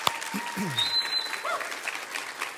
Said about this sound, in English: So man, I just wanted to take a moment and thank you for all you've done. Y'all give her a big round of applause.